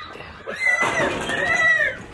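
A single horse neigh, loud, a wavering high-pitched whinny lasting about a second and a half with no talking around it.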